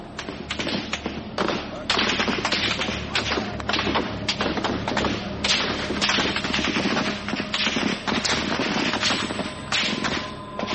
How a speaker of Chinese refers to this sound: 北京城彻夜枪声不断，这就是震惊世界的六四事件。